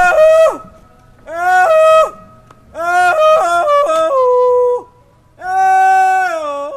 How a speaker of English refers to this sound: Occasionally, someone lets loose with an old swamper holler.